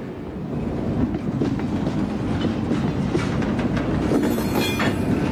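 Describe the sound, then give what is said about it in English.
A train rumbles steadily along the rails with a rhythmic clickety-clack, loud, with faint metallic squealing from the wheels toward the end. No voices are heard. “Get on board if you want to ride this train.”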